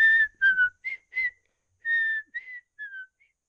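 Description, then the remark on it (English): Someone sitting still whistles a short tune: a string of clear, pure notes, some gliding, broken by brief pauses, with no talking. “was too much absorbed in his own thoughts to notice his words, and sat still, whistling.”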